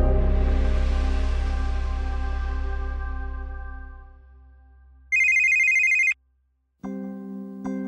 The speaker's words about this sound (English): No one likes the sound of a ringing phone in the middle of the night.